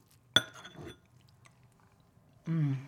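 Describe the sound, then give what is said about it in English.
A sharp clink of utensil on dish, then brief, soft crunchy chewing of a bite of green bean casserole cooked for 25 minutes, a pause, and a hummed 'mmm' of approval. “I cooked the casserole for 25 minutes. Let me taste it.”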